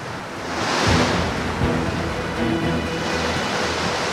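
Steady rushing and sloshing of water as someone wades through it, a broad continuous wash that swells and eases, with a few dull low thuds; no voices are heard. Wading into floodwater covering the whole Shalamcheh area, about 4 kilometres of water or more.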